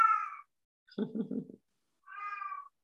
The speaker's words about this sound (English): I know, kitty.